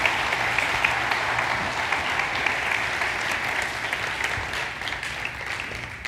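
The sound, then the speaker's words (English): An audience at a service claps steadily throughout for the people who had been up front speaking. It is a dense, sustained wash of many hands with no pauses, holding a fairly even loudness from start to finish. “But yeah, so let's give these guys just a round of applause for being up here and being honest.”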